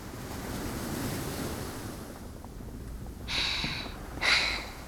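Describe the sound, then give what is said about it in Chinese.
Ocean waves wash onto the shore at sunrise with a steady hiss, and two louder surges break in quick succession near the end. A faint wind rumbles underneath, and no one speaks. “大海啊，像是承载了所有人的美貌，一闪一闪的。”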